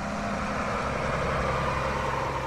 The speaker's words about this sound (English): Trucks bearing the emblem of Rio de Janeiro's City Hall arrive at the entrance of Jardim Gramacho, Latin America's largest open landfill site.